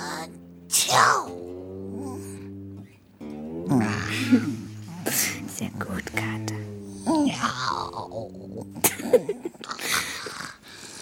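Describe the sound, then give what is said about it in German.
A person imitates an old cat's sneezes, several sharp breathy bursts mixed with groaning, wavering vocal sounds, fairly loud, with a few spoken words in between. “Manchmal niesen sie.”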